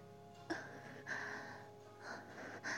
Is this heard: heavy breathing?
yes